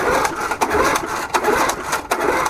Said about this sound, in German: Ein Junge versucht verzweifelt, den Motor eines kleinen roten Rasenmähers zu starten. Doch die Zündkerze ist alt und verbraucht.